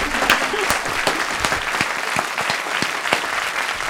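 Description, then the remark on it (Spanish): Audience applause fills the whole stretch, a dense steady patter of many hands clapping with sharp individual claps popping out, loud, with no talking over it. “¿Podemos aplaudir”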